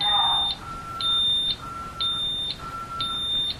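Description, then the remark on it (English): Steady electronic beeps from a security system keypad, sounding the exit delay after the system is armed away, repeat about twice a second in an even rhythm, bright and fairly loud, with a faint hum and background noise underneath; no one speaks. “And I'm going to talk a little bit during this because I want you to be able to hear the beeping, but I want to make sure that we capture that 10-second warning as well when it gets faster.”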